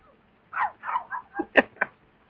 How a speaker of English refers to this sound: Yep, he goes bark, bark, bark. Very nice.